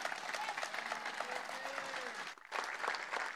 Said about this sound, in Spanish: Agradecemos las palabras de nuestro presidente y le brindamos un nuevo fuerte y caluroso aplauso.